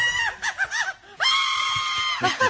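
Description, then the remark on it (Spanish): An elderly woman riding a virtual reality roller coaster through VR goggles shrieks in loud bursts mixed with laughter while gripping a relative's hand, then lets out a long, sustained high-pitched scream before breaking into more laughing cries. “No para de gritar mientras se ríe y mientras se aprieta fuerte la mano a un familiar, claro.”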